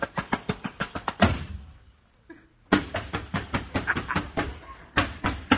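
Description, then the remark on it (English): Rapid, evenly spaced knocks pound on a door in a fast run, break off after a heavier thud as the door is slammed shut that rings and fades, then resume just as insistently after a short quiet. “As soon as I say go, we'll make a run for the door and shut it on the kid.”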